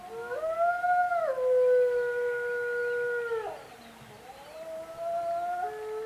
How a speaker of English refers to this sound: I think it was a new philosophical term for something that he already intuitively felt, because he obviously thrilled to the howl of the wolf back when he was on the Apache and the Carson National Forest.